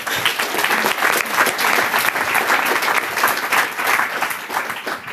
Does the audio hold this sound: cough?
no